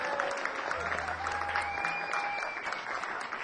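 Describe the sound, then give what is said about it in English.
A crowd applauds guitarist John Edwards and keyboardist Jan Schellhaus steadily, a dense wash of clapping that holds at an even level throughout, with a few faint sustained tones sounding underneath. “Let's hear it for John Edwards on guitar and Jan Schellhaus on keyboards.”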